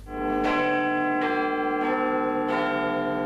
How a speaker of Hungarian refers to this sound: Londonban százezrek várták a Big Ben hangját, hogy éjfélkor jelezze, véget ért az esztendő.